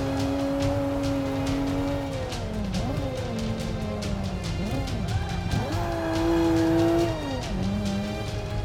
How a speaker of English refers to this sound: It's like, these cars seem unrealistically slow to me. Like, we're taking these turns at 40.